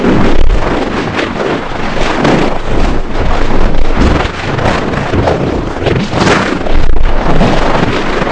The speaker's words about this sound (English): When you're tuned to that no man's land frequency, you hear rushing noises that sound like random static or a train rushing by. Here is about what vibrations sound like when you get into them.